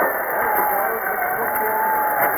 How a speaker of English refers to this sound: Smash the christening bottle, and majestically, the South Dakota is going down the waves. You can hear the crowd yelling. The flags are flying and the whistle's blowing.